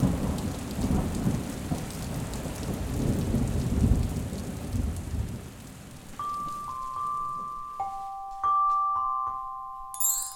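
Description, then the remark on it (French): A thunderstorm with heavy rain: dense rainfall and deep rolling thunder fill the first six seconds, then the storm fades as steady, thin high-pitched tones take over. “le voilà prêt à affronter tempête et intempéries.”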